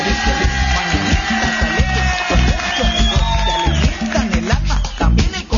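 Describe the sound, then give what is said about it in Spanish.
A crowd applauds steadily and loudly for several seconds for a birthday greeting to someone turning 20, the clapping mixed with cheering voices and a few high whistle-like tones running over the top. “Dámele más aplausos.”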